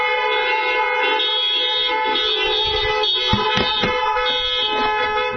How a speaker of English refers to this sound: But let's honk our horns this morning for our moms.